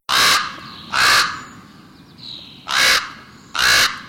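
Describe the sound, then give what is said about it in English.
Four loud, hoarse common raven croaks ring out in a steady, spaced rhythm, each harsh call rising above a faint outdoor background with other bird notes. “Ravens, their voices unmistakable, held a prominent place in the cultures of northern peoples from the Vikings to the tribes of the northwest coast.”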